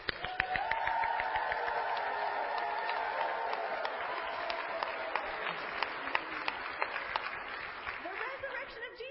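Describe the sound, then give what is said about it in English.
A crowd cheers and claps steadily for about nine seconds, celebrating that Christ is risen, with sharp individual claps and whoops standing out over a continuous roar of voices. “It deserves that kind of cheer. So let's hear it.”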